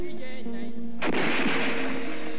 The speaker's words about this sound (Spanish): Los primeros disparos sonaron. La multitud corrió pensando que las balas eran de salva. No fue así.